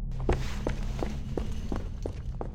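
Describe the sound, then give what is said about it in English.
Quick running footsteps of two people running, about seven evenly spaced thuds in a steady rhythm, laid over a constant low rumbling hum with no voices. “Keelan and Thimbus ran faster than they ever had before, slamming the door behind them.”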